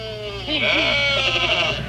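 sheep bleating

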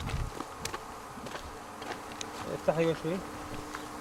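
honeybees buzzing around hives

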